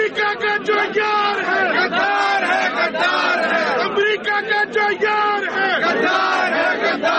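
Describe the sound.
A large crowd of supporters of Pakistani Prime Minister Imran Khan chants slogans in unison in the streets of Islamabad, against the United States and Israel and in support of Imran Khan: loud rhythmic shouted phrases repeating steadily over a continuous roar of voices.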